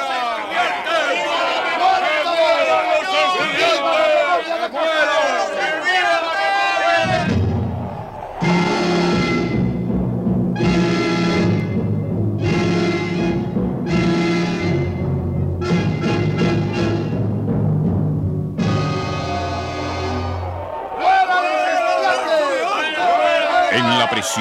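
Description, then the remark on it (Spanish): A loud crowd of young students gathered around a prison shouts angrily, the yelling rising in repeated, chant-like bursts of the same cries with a steady low drone underneath through the middle, then breaking back into a jumbled roar. “De sus labios salían siempre los mismos gritos.”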